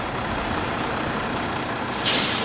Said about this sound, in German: Jetzt passiert gerade auf dem Hof etwas. Vor das Gutshaus rollt ein rot-weißer DDR-Reisebus, ein Icarus.